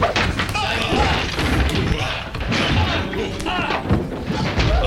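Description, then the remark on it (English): Loud clattering and heavy thuds as tables and chairs are knocked over in a tea parlor while two people struggle and roll across the floor, a continuous chaotic scuffle, with agitated voices shouting underneath throughout. “Knocking over tables and chairs in their path.”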